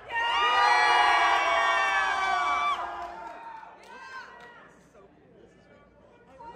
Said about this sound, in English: Cheer for the pony you most want to hear from. Who will it be? Carrot Top? Woo! Or Lion? Yeah!